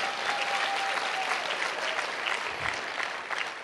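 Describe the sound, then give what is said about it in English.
Steady applause from an audience during a sermon, many hands clapping in a dense, even wash of noise that holds at a constant loudness throughout, with no voices standing out. “If one person claps, y'all got to go.”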